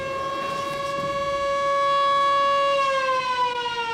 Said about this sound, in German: In diesem Moment ertönte ein ohrenbetäubendes Sirenengeheul und alle Arbeiterinnen in der Fabrik erstarrten.